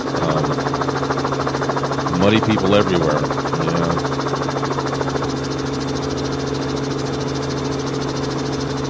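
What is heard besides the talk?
helicopter engine and rotor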